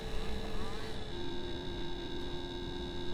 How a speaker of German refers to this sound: Das Moped-Auto in der Kurve.